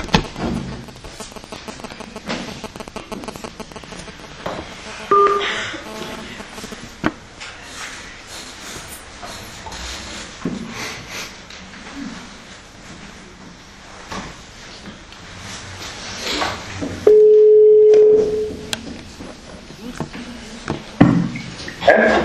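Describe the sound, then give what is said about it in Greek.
Telephone dialing tones as a caller is redialed after a phone line keeps cutting out from a poor signal: a couple of short beeps early on, then a loud steady tone lasting over a second, over a busy background of clatter and faint voices. “Επειδή κάνει πάρα πολλές διακοπές οι οποίες δεν είναι από τη μικροφωνική, είναι από το σήμα, να το κλείσουμε και να σε ξαναπάρουμε.”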